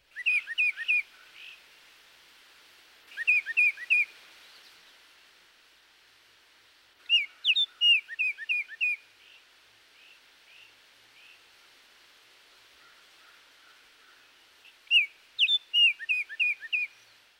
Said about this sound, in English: The oriole also has a two-noted phrase, similar to that of the cardinal or titmouse.